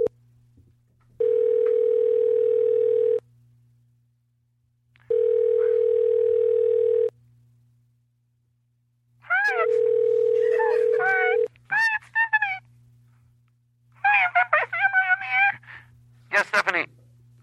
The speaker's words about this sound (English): Oh, we're gonna call her. I'll dial it up.